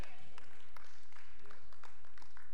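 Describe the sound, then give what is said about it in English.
Scattered, uneven clapping from an audience: a handful of sharp claps spread irregularly over a few seconds, fairly soft, with a low murmur of voices underneath. “Anytime you start getting spatters of clapping, it's starting to get better.”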